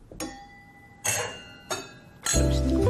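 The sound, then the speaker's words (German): Several bright clinks of wine glasses touched together in a toast, three or four separate chimes with lingering tonal overtones, the last one louder and fuller. “E cin cin, voilà.”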